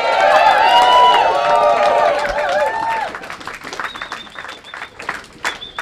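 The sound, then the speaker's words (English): A crowd gives itself a round of applause, loud, with cheers and whoops over dense clapping that thins out partway through into scattered claps, and a whistle cuts through near the end. “Folks, you need to give yourselves another round of applause.”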